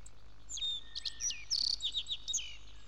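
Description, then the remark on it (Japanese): Small songbirds chirp and trill in the morning in quick, bright phrases, several overlapping calls rising and falling over a faint low hum, moderately loud, with no talking. “朝の小鳥です。”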